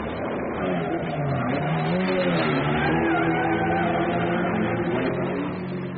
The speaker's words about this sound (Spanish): Allá viene un carro.